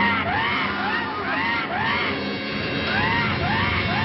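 A giant monster bird's cry, a huge chicken from the 60s science fiction movie The Giant Claw: about five shrill, arching squawks in quick succession, loud, over a dense rumbling background with no talking.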